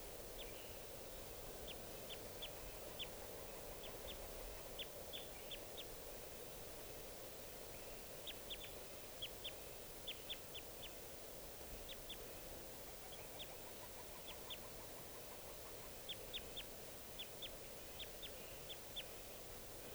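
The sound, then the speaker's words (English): A wild bird calls in short, high-pitched chirps, repeated in small quick clusters throughout, fairly faint over a steady background hiss with no one talking. “Wild bird.”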